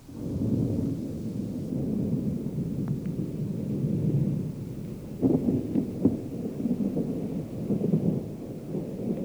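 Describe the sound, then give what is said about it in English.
Distant thunder rolls from behind the cliffs as heavy thunderheads race over before a cloudburst, in a long, low rumble that swells and stays steady, with a few sharper cracks and surges partway through. No voices are heard. “Pretty soon, here came a low growl from away back behind the cliffs.”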